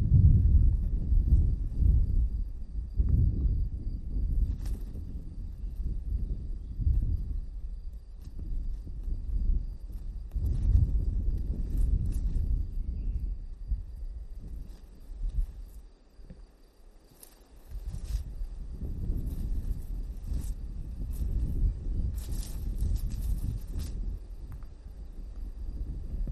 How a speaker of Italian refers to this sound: Però adesso c'è il vento, ti faccio sentire il suono della faggeta col vento.